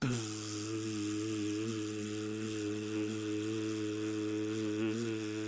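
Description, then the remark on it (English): A voice imitates a buzz, recorded to be layered with a hiss: a steady, low-pitched droning hum held continuously for several seconds at fairly even loudness, with a slight waver in pitch and no other sounds. “Okay, that's the buzz.”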